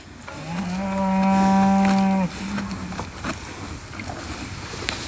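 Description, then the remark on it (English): A dairy cow from a small dairy herd in West Loveland, Colorado lets out one long, low, droning moo, trailing into a shorter grunt, with outdoor ambient noise and a few faint knocks afterward. “Those are the sounds of cows of Five Freedoms Dairy in West Loveland, Colorado.”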